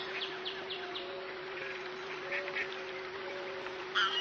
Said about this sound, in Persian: خب بریم بیرون نشونت بدم. این طرف دست چپ یه برکه آب پر از مرغابی.